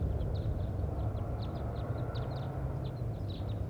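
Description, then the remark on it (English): A flock of wild birds passing over gives scattered high, thin chirps throughout, fairly faint against a steady, loud low rumble. No one speaks. “And wild birds are flying over right now. Stop. So recording, we had a flock fly over.”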